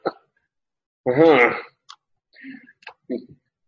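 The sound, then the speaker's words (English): A single harsh cough bursts out and fades, followed by a few faint clicks and small mouth noises in otherwise quiet. “You realize I probably haven't coughed until just now.”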